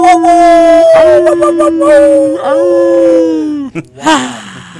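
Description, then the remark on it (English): Several people in a radio studio howl together like a pack of dogs, long sustained wavering tones rising and falling over about five seconds, loud, ending with a short yelp. “We're a pack of upper room puppies. Puppies. Come on, boys, let's howl for Pastor.”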